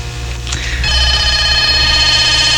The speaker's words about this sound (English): Oh, we have a phone call.